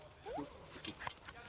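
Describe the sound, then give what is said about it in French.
A dog gives a couple of brief, high rising whimpers, a quick pair of whines early on and a shorter one about a second later, fairly quiet against outdoor background noise. “Allez rappeler les chiens.”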